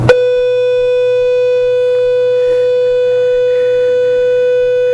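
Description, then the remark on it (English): An electronic school bell rings as one loud, steady mid-pitched tone that holds unbroken for several seconds, with a faint murmur of background noise beneath it. “We'll just have to put up with the bell schedule today.”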